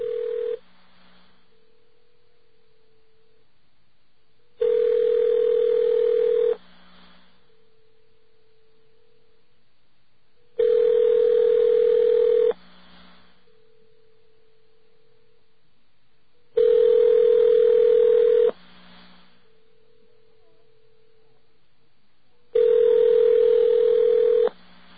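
A telephone line tone sounds in loud two-second bursts about every six seconds, with a fainter steady tone humming between them, as a call is dialed again after a wrong number. No one speaks.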